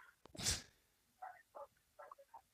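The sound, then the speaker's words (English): A single loud, harsh throat clearing, a quick burst of rasping noise, followed by a few short, quieter vocal sounds with no clear words. “I was clearing my throat.”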